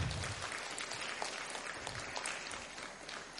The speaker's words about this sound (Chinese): 我们再一次鼓掌